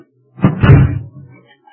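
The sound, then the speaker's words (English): A kitchen back door is pushed shut with a single solid thud and a brief rattle, loud, then a short fading rumble as it settles. “Back door's wide open. I'll close it.”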